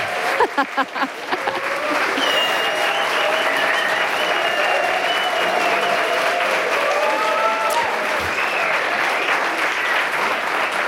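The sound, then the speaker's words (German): A studio audience in Studio 14 of the RBB Dachlounge claps steadily throughout at the start of a live radio talk show: a dense, sustained wash of applause that starts with a few separate claps and builds to a full, even roar, with some cheering voices mixed in. “Dankeschön für diesen warmen Empfang hier gerade.”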